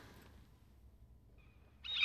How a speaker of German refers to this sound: Ah, wie gehört sie schon? Die Möwe.